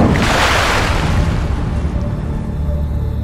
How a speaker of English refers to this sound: I think as soon as there is a sound of someone coming out of the water, like Gable obviously like pulls themselves up out of the water.